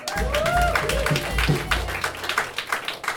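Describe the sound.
An audience breaks into applause, a dense patter of many hands clapping at once, with a few voices whooping over the start before the clapping thins toward the end.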